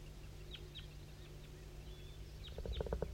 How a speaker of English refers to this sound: Mostly 5-3 here, and the wild bird's way in the distance, but in the same direction as 5-3, straight to the southwest.